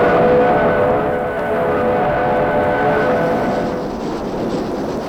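A train pulling out of a town: a loud, continuous mechanical rumble, with a faint whistling tone at first that fades after a second or so. No voices.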